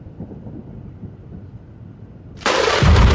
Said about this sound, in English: Thunder crashed, and lightning struck with violent fury.